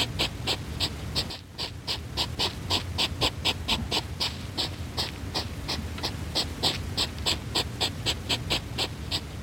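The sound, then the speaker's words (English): A hedgehog, out after its long winter hibernation, sniffs busily while hunting for worms: rapid, evenly spaced puffs of breath, about three a second, continuing steadily over a soft low rumble, with no voices. “It is, in fact, a hedgehog on the hunt for some worms after the long winter's hibernation.”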